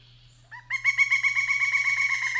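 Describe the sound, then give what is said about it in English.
A pileated woodpecker's call: after a soft lead-in note, a rapid, even series of loud, ringing, slightly nasal notes repeats over a steady low hum. “You got a pileated in your backyard.”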